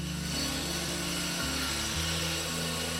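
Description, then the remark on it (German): A diamond-reinforced chainsaw, a special tool used by THW rescue teams to free survivors from rubble, grinds through stone or concrete, its loud engine droning steadily with a gritty hiss and pitch that dips and rises as the cut bites; no voices. “Zum Beispiel Bolzenschneider, Spreizwerkzeuge und die haben sogar eine diamantverstärkte Kettensäge, mit der sie durch Stein, Beton und Glas sägen können.”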